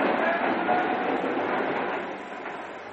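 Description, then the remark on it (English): Steady, dense rumble and hiss of a train standing at a railway station for a stop of about five minutes, loud at first, then easing slightly toward the end, with no clear voices. “how long is the train stopped for?”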